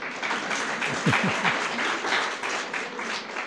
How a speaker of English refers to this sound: I'll take the applause to be for my mum.